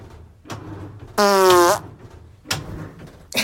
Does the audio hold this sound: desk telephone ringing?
no